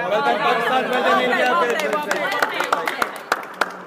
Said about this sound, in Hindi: ये थी ओवल के मैदान की आवाजें।